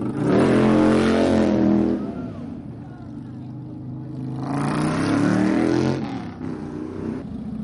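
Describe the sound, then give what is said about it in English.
Motorcycle engines rev loudly in two surges, the pitch climbing and falling with each throttle twist, over a busy background murmur of a crowded street; on a Main Street lined on both sides with packed rows of motorcycles, at twilight. “to 9 p.m., but as far as we could see, both sides of Main Street lined with a packed row of motorcycles that were gleaming in the twilight sun.”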